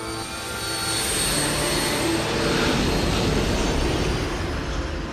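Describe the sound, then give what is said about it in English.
A sleek jet's engines give a steady, broad roar that swells slightly and holds for several seconds as it turns from its hover at the torch and flies into the night sky, a continuous rushing drone with no voices. “Up in the torch, Eric turns his head and watches as the sleek jet turns from its hover at the torch and flies into the night sky.”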